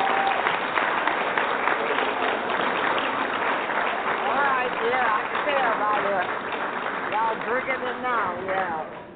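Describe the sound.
An audience claps in a steady, unenthusiastic patter for about nine seconds, tapering slightly toward the end, while a voice talks over the second half.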